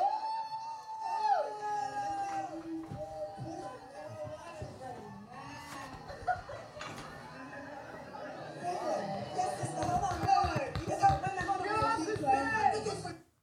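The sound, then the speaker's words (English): A crowd boos a drunk performer twerking on stage, with long, wavering drawn-out tones from many voices that swell and grow louder in the second half before cutting off abruptly. “So they were basically booing her up there.”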